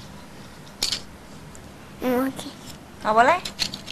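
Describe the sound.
A single crisp, brief snip of scissors held by a child, followed by a child's voice speaking a couple of short phrases.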